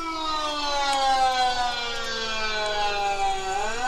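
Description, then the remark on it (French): A loud, sustained lockdown (confinement) alert siren wails steadily, its tone slowly sliding down and then rising again near the end, with no voices over it. “Puis vous savez ce que je veux dire, là, par sirène d'alerte de confinement.”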